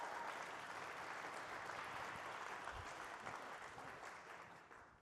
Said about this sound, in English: Give Dr. Rome a big hand clap.